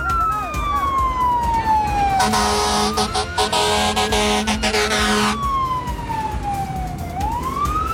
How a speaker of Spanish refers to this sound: Cuidado, que viene bombero, cuidado.